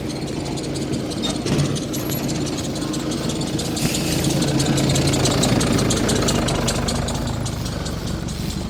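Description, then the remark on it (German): A tractor engine idles with a steady low rumble and faint knocking, running continuously and fairly loud with no one talking; the tractor is behind the recordist, its driver having just waved them through. “Hinter mir ist ein freundlicher Treckerfahrer, der mich gerade durchgewunken hat.”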